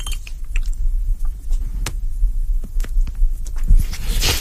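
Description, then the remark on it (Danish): Loud, repeated puffing on a very large, freshly lit pipe: soft low thumps and wet sucking pulls in an uneven rhythm over a steady low rumble, with brief crackly clicks and a breathy hiss near the end. “Og jeg patter lidt højlydt på den, så I kan høre, at jeg er godt i gang.”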